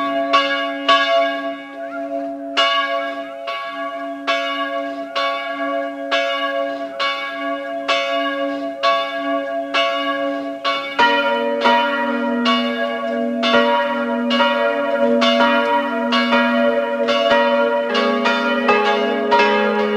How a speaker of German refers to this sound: Es ist 12 Uhr, es läuten die Glocken der Pfarrkirche Goldeck, Land Salzburg.